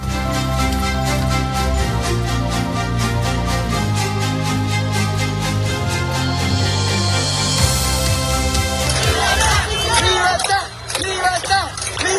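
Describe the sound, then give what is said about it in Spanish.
A crowd of Cubans in Cuba shouts and chants together, calling for freedom, in a loud, steady, rhythmic roar, breaking into more ragged, overlapping yelling near the end. “Son los gritos de los cubanos pidiendo libertad.”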